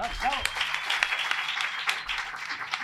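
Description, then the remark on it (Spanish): A crowd applauds steadily for a few seconds at the end of a live show, a dense wash of many hands clapping with sharper individual claps popping out, plus a brief rising vocal whoop near the start. “Y un aplauso”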